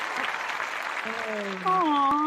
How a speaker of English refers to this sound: Loud crowd applause. There it is.